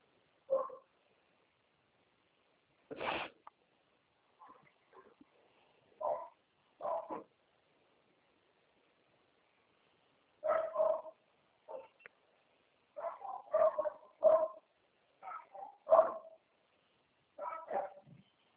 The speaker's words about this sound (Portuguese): Um pouco medo dos cachorros.